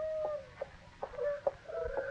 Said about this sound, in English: Is that a hoot owl? Come to think of it, I never heard anything sound so much like a hoot owl. A little too natural.